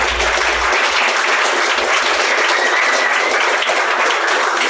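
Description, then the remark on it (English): A crowd applauds steadily for the team behind the bid for the Victorian Pride Centre, a dense wash of many hands clapping at once that stays loud and even throughout, with no voices rising above it. “So I want to acknowledge that and give them all a round of applause.”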